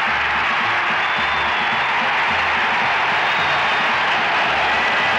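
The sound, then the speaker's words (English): A stadium crowd roars after a Raiders touchdown, as Charlie Smith catches a 32-yard pass from Stabler down the middle, a loud, dense wall of cheering that holds steady for several seconds with no break, its hiss-like mass of voices filling the whole clip. “The crowd comes apart at the seams as Charlie Smith catches one from 32 yards down the middle.”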